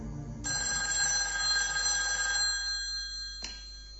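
A telephone rings with a bright, continuous electronic trill lasting about three seconds, then cuts off abruptly, heard clear with no talking.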